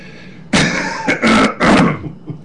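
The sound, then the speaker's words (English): A loud fit of coughing: one harsh cough followed by two more rough bursts in quick succession, with no talking around them. “And he's healthy as ever. I need a cough button.”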